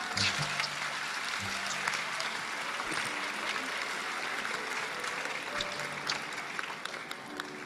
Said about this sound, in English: I think we should clap for the brother.